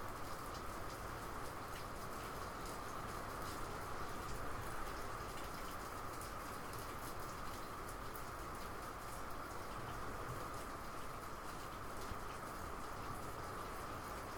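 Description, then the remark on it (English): Steady rain falls throughout, a dense, even hiss with constant patter and water dripping all over, holding a uniform level with no voices or pauses. “And I really can't record anything decent with that in the background and with water dripping all over. But this sounds pretty cool when you're recording like this.”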